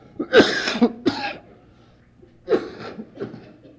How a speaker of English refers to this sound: I don't know where I found this cough, but I'd like to get rid of it.